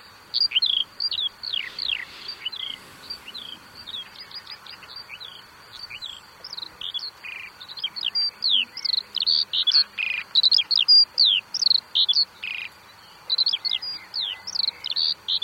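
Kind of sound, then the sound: bird, bird song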